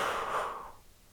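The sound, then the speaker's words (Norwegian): A single audible exhale during a guided breathing exercise, a soft breathy rush of air that fades out after under a second, with no talking. “Pust ut.”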